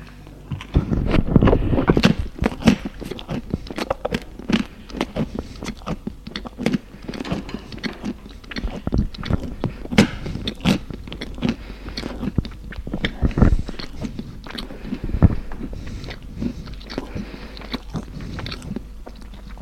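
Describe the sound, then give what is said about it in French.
Steady chewing and biting with crisp, crunchy bursts of someone eating bread and cheese at home, continuing for the whole stretch with irregular rhythm and no talking. “En rentrant chez lui, il mange du pain et du fromage.”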